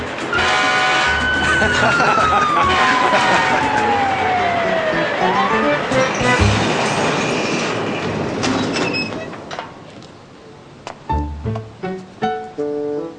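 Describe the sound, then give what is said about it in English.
The fire bell on top of a fire truck, pushed by a child, rings in a quick series of sharp, clanging strikes, following a loud, noisy stretch with a falling siren-like wail. “That one rings the fire bell on top of the truck.”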